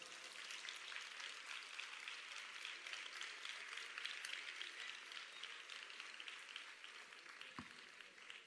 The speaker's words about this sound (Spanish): Yo os voy a pedir un fuerte aplauso porque la verdad es que el despliegue técnico que aquí se realiza es importante. Así que fuerte aplauso para todos ellos, para los técnicos.